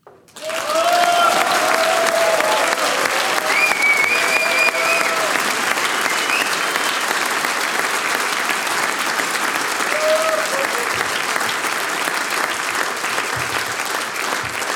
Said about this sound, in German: Wir haben's und der erste Applaus, lieber Chor, liebe Singgemeinschaft Lantscher Dannhausen, der gehört euch. Danke fürs Veranstalten und danke fürs großartige Singen.